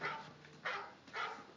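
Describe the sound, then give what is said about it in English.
A dog gives three short barks spaced roughly half a second apart, each with a slightly whiny, whimpering edge, with no talking around them. “That is a dog.”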